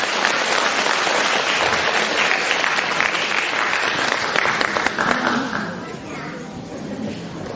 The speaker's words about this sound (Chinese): 现在让我们用最热烈的掌声恭请我们尊敬的卢军宏台长。